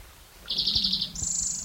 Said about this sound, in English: Today is June 11th, 2009 at Kinney Creek. Same location as yesterday. First spotted towhee number 3.